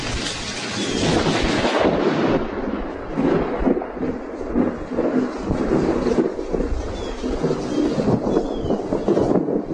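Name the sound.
rain and thunder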